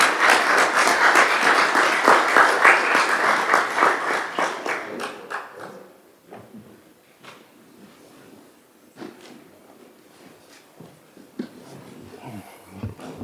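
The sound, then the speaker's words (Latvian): A burst of applause from a group at a Talsi municipal council meeting, welcoming a new council deputy, dense and steady for about five seconds, then thinning into scattered individual claps and fading out. “Aplausi!”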